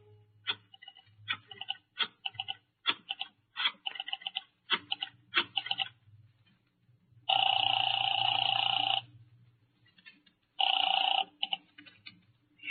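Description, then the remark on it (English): A quick run of sharp clicks as a phone is dialed from a phone booth to Marty Crane's apartment is followed by two long, loud, buzzing telephone rings separated by a short pause. No one speaks. “I found a phone booth and called Marty Crane's apartment.”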